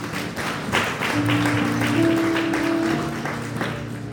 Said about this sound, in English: Somebody receive that with a clap of praise.